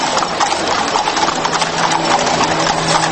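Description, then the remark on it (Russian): Hooves of a horse pulling a special phaeton carriage giving rides in a city during a car-free day clip-clop in a steady, brisk rhythm, the sharp knocks sounding loud and continuous over a faint background hum. “Можно прокатиться на специальном фаэтоне.”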